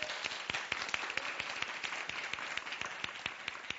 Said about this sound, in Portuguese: Por favor, uma salva de palmas.